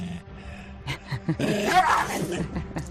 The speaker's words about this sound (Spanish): De las que muerden como ladran como mi perra. No, de esas.